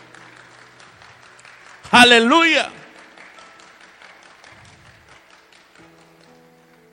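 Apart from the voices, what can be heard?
audience applauding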